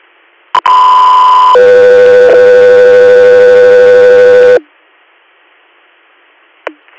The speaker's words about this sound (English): 3 Air, stand by for tones.